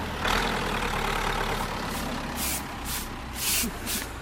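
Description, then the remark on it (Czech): A snow-clearing tractor engine rumbles steadily, a deep continuous drone with a few short bursts of high hiss near the end and no voices. “že to, co si krásně zametla, tak jí sem zpátky nahrne traktor.”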